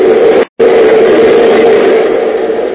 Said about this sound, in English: To the left and right are plate glass windows looking out on the murky darkness of the underground city. Suddenly a train roars past the windows, its lights illuminating the faces of the two men.